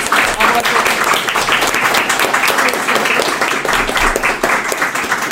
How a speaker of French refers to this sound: On peut les applaudir.